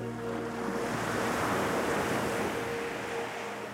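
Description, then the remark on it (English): Steady ocean surf washes in and out continuously, a broad rushing hiss of waves with a low rumbling undertone and faint tonal hum, loud with no voices. “The waves move with rhythm. Your breathing will match the waves, coming in and going out.”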